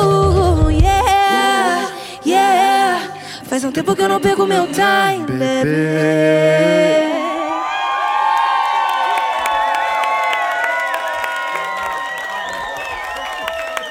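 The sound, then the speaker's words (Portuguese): A singer-songwriter from São Paulo, Brazil, performs a pop song live with a band and a guest vocalist, recorded for a live album released in 2025. The vocal melody is clear, then the final line gives way to a loud, sustained roar of crowd cheering and applause. “Ouvimos … e participação de … na música …. A faixa faz parte do álbum ao vivo …”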